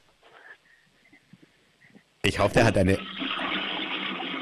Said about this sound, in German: Ich wollte gerade sagen, ich hoffe, du hast eine laute Klospülung und du hast tatsächlich eine laute Klospülung